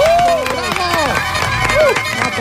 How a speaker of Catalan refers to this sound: Vinga, bon aplaudiment pel Joel Díaz i el Manel Vidal.